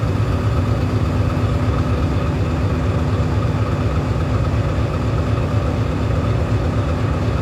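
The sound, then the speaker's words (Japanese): A massive diesel engine of a 6,700-ton ship serving the Ogasawara Islands thunders steadily in the ship's engine room, its dense low-frequency rumble pulsing in a regular rhythm without pause. No voices are heard. “巨大なディーゼルエンジンが規則正しいリズムを刻んでいます。”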